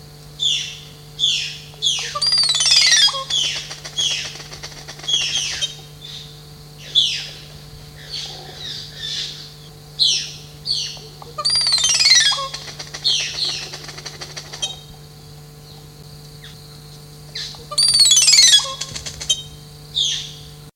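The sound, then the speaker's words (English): Oropendola calls repeat throughout, with bursts of liquid, gurgling, descending notes and sharp chirps rising to a louder flurry every few seconds, clear over a steady low hum. “I studied Oropendulas for 6 years, not their sounds and not the acoustics, but I studied their mating system”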